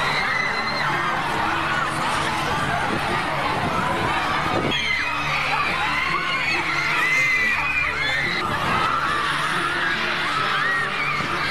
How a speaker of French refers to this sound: qui connaissent bien sûr l'intégralité de ses chansons par cœur, mais qui campent aussi devant ses hôtels, hurlent, pleurent et tombent dans les pommes dès qu'il apparaît, protégé par des gardes du corps.